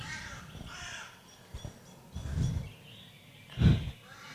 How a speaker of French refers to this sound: Le corbeau qui houspille le grand-duc.